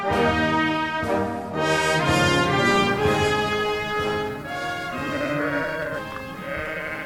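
Several sheep bleat loudly, their wavering calls overlapping continuously with no pauses and no people talking.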